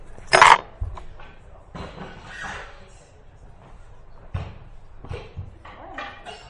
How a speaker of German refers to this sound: Okay, dann drapieren wir jetzt unsere Stühle.